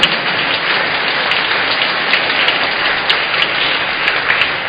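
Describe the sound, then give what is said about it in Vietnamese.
Steady, dense applause from a large church audience thanking the altar servers, a continuous wash of clapping that holds at an even loudness throughout, with no voices. “Xin công bà anh chị em cảm ơn các em một tràng vỗ tay thật lớn.”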